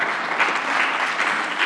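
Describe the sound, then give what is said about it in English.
An audience applauds, a dense, steady patter of many hands clapping at a fairly loud level, with no one speaking over it. “don't applaud that, because we got to stand together.”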